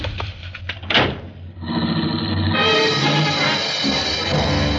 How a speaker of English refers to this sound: I wasn't fast enough for him, and his foot slammed me out of the car and onto the sidewalk. The car shot down the dark street and was gone.